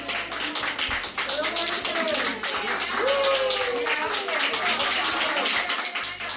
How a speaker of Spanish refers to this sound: Casi habíamos olvidado ya, ¿verdad?, esos aplausos que durante los meses duros de la pandemia pues escuchábamos tan a menudo cuando un paciente abandonaba la UCI.